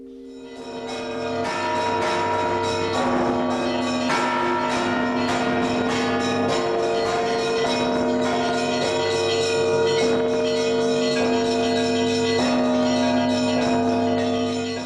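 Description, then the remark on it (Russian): Several church bells peal together from a bell tower, its middle bell named 'Lebed' (Swan), cast under Boris Godunov in 1593, struck again and again in a steady rhythm, their deep ringing tones overlapping and sustaining loudly, with no voices. “Посередине в колокол называется он «Лебедь». Такое красивое имя.”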